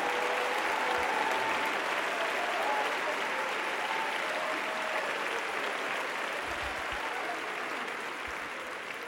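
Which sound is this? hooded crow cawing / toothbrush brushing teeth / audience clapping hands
audience clapping hands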